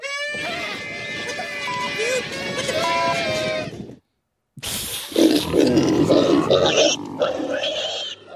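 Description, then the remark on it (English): Pigs grunt and squeal loudly, a sustained burst of noisy snorting for about four seconds, a brief pause, then another rough, crowded stretch of grunting. “So they woke him up, and then they rolled a bunch of pigs into his bedroom with Bigot spray painted on them.”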